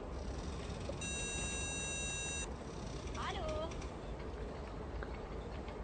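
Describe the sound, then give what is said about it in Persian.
A phone line's ringing tone sounds once as a call is placed to a daughter's mobile phone, a steady electronic burst lasting about a second and a half, moderately loud over a constant rumbling background noise, followed by a brief faint chirp. “اینم شماره ریگن. خب دیگه همگی ساکت. از چرا بر نمیداره؟”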